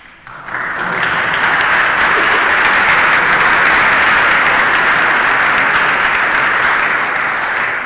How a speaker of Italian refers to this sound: Questo applauso sottolinea non tanto il premio, quanto un doveroso riconoscimento